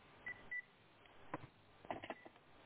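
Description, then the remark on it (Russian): Two short, high electronic beeps from a telephone as its call button is pressed sound close together over a thin phone-line hiss, followed by a few soft clicks and clattering noises. “То есть там на том телефоне сразу писк какой-то идет?”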